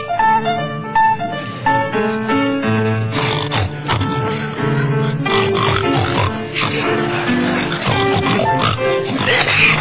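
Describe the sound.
A group of voices sings a melody entirely in pig-like oinks and grunts, loud and continuous, the snorting tones rising and falling with the tune for the whole stretch.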